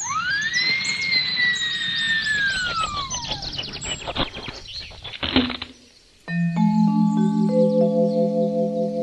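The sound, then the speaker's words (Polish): A high, whining dental-drill sound that swoops up and slowly falls, then a burst of rapid tapping knocks, like a woodpecker pecking, as a woodpecker acting as a forest dentist repairs a wolf's neglected teeth. After a short silence, a bright sustained chime rings out. “Dzięcioł tymczasem zabrał się za naprawę zaniedbanego uzębienia.”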